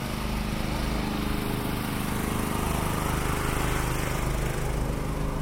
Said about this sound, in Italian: Alle sirene si sovrappone il brusio dei generatori di corrente. Non si trovano dappertutto, qualche locale pubblico, qualche negozio, il teatro dell'opera.